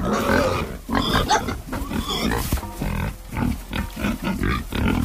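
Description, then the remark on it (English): Pigs grunt and squeal eagerly over food, a dense overlapping chorus of rough, snorting calls in quick irregular bursts, loud and busy throughout with no pauses. “Like cash is king to a lot of people, food is king to pigs.”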